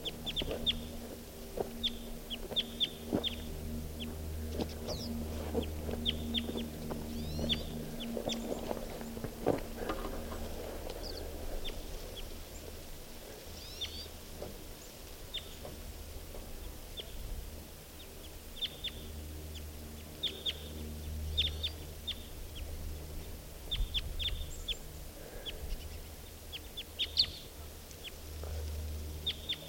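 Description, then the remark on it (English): Type 2 red crossbill calls from three crossbills flying off together with a siskin: sharp, high, clipped 'kip' notes repeated irregularly across the whole stretch, some overlapping, over a steady low background rumble. “Now those three type 2 crossbills plus a siskin are flying off together.”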